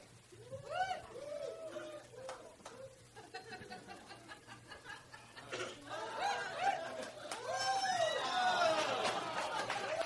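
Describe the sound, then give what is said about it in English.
Screaming Woot Monkey flying monkey toys, which scream when they fly, let out repeated swooping, high-pitched shrieks that overlap and grow louder and denser toward the end, with murmuring voices and laughter underneath. “Did you hear them screaming? They scream when they fly.”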